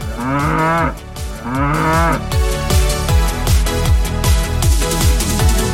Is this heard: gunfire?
no